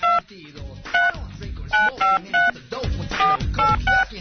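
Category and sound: signal or alarm, telephone number being dialed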